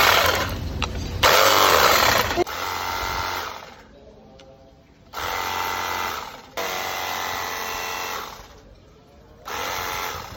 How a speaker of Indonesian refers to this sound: Jet steam ini memiliki banyak mode semprotan guys, ada yang 0 derajat, 45 derajat, 15 derajat, dan masih banyak lainnya. Mari kita coba seberapa kencang semprot.